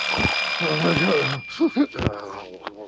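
alarm clock ringing

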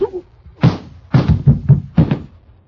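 slap to the face

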